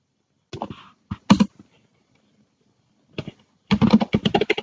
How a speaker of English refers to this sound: Typing in the password again.